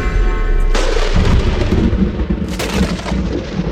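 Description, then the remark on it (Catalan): A loud bang sound effect breaks into a deep, rolling thunderclap that rumbles heavily, with a second crack of thunder near the end, all booming with no voices. “Si tu, com a científic, sí, dius una frase i se sent un cop i un tro...”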